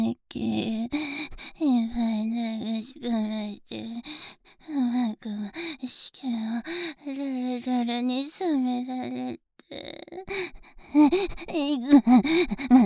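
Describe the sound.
A person yawns up close, several drawn-out voiced yawns with pitch sliding up and down, each trailing off into breathy gasps and sighs, with short pauses between.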